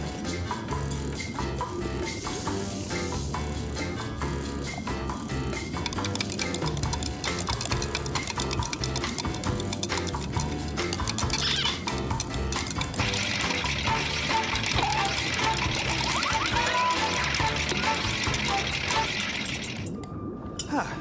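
Salt being stirred into colored water on Bill Nye the Science Guy, a steady swirl of liquid with light, rhythmic clinks against a glass, continuous for about twenty seconds over a soft musical background.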